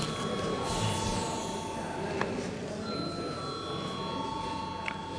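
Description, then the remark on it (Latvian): A voting bell sounds in a parliament chamber, rung to call deputies to a vote on a legal bureau's proposal: a steady, sustained electronic ringing tone that holds for several seconds over a constant background hum and low murmur, with a second tone joining partway through. “Deputāti prasa balsojumu, lūdzu zvanu.”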